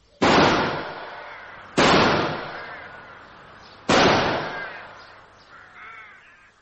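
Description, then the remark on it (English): Three loud rifle gunshots fired about 20 feet over a person's head, each a sharp crack followed by a long ringing decay, spaced unevenly about two seconds apart, with a softer trailing echo at the end and no talking. “Shots went about 20 feet over my head.”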